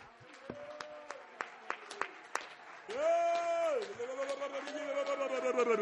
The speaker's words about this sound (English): Could we all clap our hands together? I feel something in the atmosphere. Would you all, everybody in unity, would you clap your hands? Would you shout to Jesus? Would you thank Him? Would you love Him? Hallelujah.